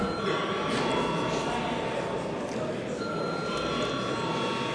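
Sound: parliament chamber bell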